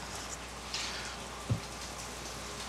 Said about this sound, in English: This rain is so beautiful. Yeah. It's my favorite weather.